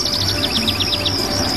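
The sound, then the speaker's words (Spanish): A quick run of high, bright chirps from small birds, about eight short notes in rapid succession, then a steady thin twittering over a soft, continuous outdoor background hum. “También cambiaron los pajaritos de rama.”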